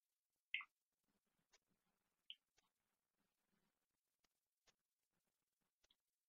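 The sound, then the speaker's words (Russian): Sparse, irregular keyboard typing of the alphabet: about a dozen soft, crisp key clicks spread over several seconds, with a couple of sharper taps, and no talking. “Руки кладем на клавиатуру. Поехали, работаем.”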